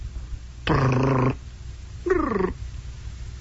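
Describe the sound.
A voice imitates a telephone ringing with two rolling, buzzy "brrr" trills: a longer steady one, then a shorter one that bends in pitch, with a pause between.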